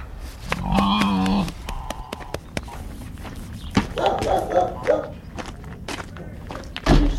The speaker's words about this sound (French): C'est le cochon, ça.